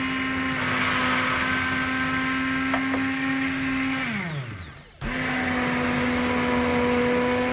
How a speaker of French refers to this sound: Les lentilles ont cuit un bon quart d'heure. Maintenant, on va mixer avec le mixeur plongeant cette crème de lentilles en ajoutant le jus de citron.